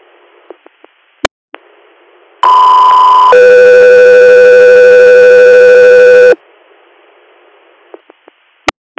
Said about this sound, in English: Echo 3 Air, stand by for tones.